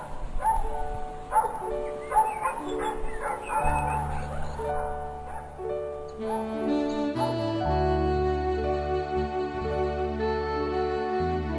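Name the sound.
dog barking happily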